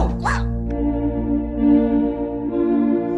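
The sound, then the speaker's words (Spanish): A single short, sharp bark from Canito, the detective dog, pops out right at the start, then a steady droning tone hums underneath for the rest, with no talking. “Mira, Lisa, Canito, el perro detective.”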